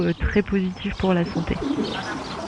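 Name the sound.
birds singing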